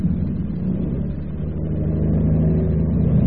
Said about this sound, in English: Fasten your seatbelt. We're going to take off now.